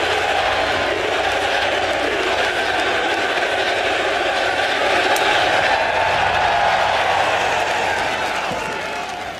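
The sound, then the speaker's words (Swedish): A large golf crowd cheers and roars steadily for several seconds as a player hits, a dense wash of voices and clapping that holds its loudness before easing off slightly at the end. “I en idrott där det ska vara tyst och lugnt när spelarna slår, så väljer spelarna att hetsa publiken, att sjunga med och jubla med att de slår.”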